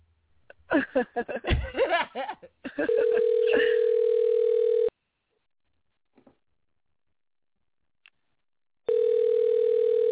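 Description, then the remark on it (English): A phone line rings out on an outgoing call: a steady electronic ringback tone lasting about two seconds, a long silent pause, then it starts again. Brief laughter comes just before. “You better pick up this phone.”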